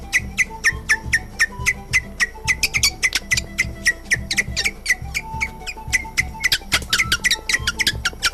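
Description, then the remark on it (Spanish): Shrill, squeaky whistling blown on a patujú leaf in Bolivia to call birds, a steady run of short chirps repeating several times a second like a bird call, with no talking over it. “Y sirve para silbar, para llamar pajaritos.”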